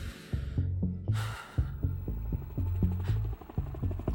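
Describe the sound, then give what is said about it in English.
A helicopter's rotor thuds in a steady, fast rhythm, a deep throbbing pulse overhead, with faint wind-like hiss drifting in and out. “Helicopter. We can wait for help.”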